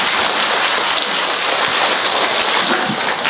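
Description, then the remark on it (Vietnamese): A loud, steady burst of clapping from a crowd, a dense crackling wash of many hands that holds at full strength for about three seconds, with no voices over it. “Tập 2 cũng kết thúc, xin một tràng pháo tay.”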